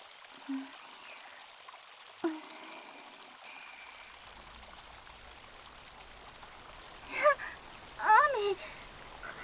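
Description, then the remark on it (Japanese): Rain falls in a steady, soft hiss that continues throughout, with a few faint isolated taps early on and a couple of brief, higher-pitched sounds rising over it near the end. “雨宿りしよう。”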